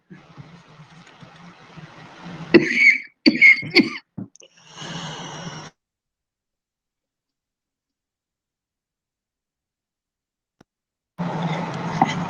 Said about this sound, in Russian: Это я, это самое, все-таки покашливаю.